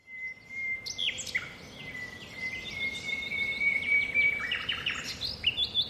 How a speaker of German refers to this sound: Genau. Unverkennbar, genau. Vogelgezwitscher. Genau.